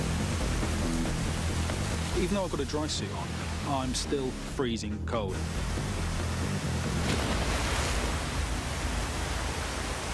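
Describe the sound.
A dense, constant roar of waterfall water pounding down onto a man fills the whole recording, while he speaks a sentence over it, his voice partly swamped by the rushing noise.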